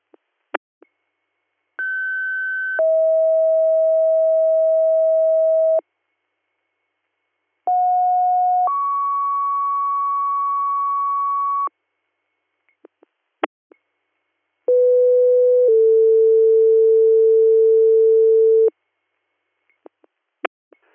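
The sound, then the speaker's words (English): Three rounds of dispatch pager alert tones, each a short steady tone sliding into a longer held tone at a new pitch, separated by brief radio clicks and silence, with no talking; the tones page EMS units to a diabetic emergency in Holster Township. “Disregard your tones, no DR given.”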